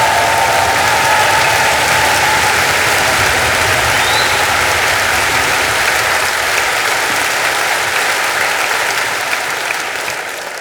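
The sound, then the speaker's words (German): A large concert audience at the Semperoper opera house in Dresden applauds steadily, a dense wash of clapping that holds loud and even for about ten seconds before tapering slightly at the end, with no speech over it. “Geben Sie sich einen riesen Dresdner Applaus, das …-Tour!”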